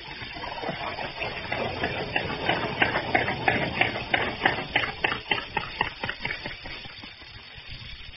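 A boat engine cranks and catches, its rapid chugging pulses settling into a steady rhythmic idle that gradually slows and softens toward the end, fairly loud with no voices.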